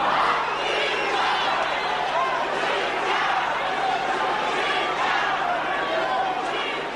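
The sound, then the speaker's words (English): A large crowd roars continuously, with overlapping shouting voices and chant-like calls forming a dense, steady wall of noise at a constant loud level, jeering and chanting to interrupt a Zimbabwean leader's address and demanding that President Robert Mugabe step down. “As you can hear, his address was repeatedly interrupted by jeering and chanting by the crowd, demanding that first President Robert Mugabe must step down.”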